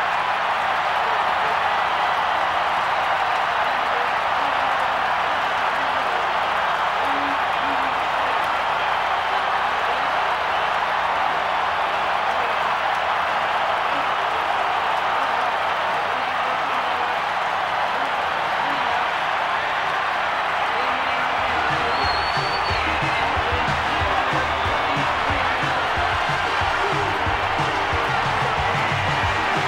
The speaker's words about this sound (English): And once again, the Minnesota Twins are baseball's world champions for the second time in 5 years. It's the world champion Minnesota Twins, and the crowd loves it.